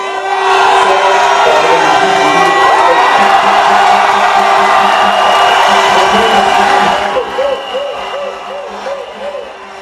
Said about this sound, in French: En tout cas, en dehors de ces cris de joie, moi personnellement, j'ai vu une maman écrasée des larmes.